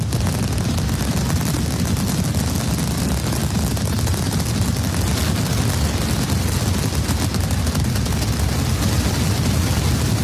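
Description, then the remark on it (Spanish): A relentless, dense mascletà firecracker barrage during the Fallas festival in Valencia pounds on without pause, with booming low thuds and sharp crackling bursts merging into one deafening roar. “La última mascletà, yo estuve en la del sábado.”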